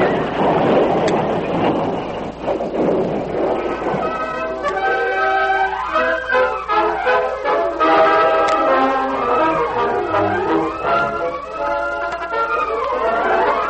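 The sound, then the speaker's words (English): Horses squeal in terror as a stagecoach crashes after its left front wheel flies off on a sharp turn of a dangerous trail and it goes over an embankment: a rough, rumbling clatter opens, then shrill, wavering squeals rise and fall again and again, loud and continuous, with no one speaking. “The horses squealed in terror when the heavy vehicle dragged.”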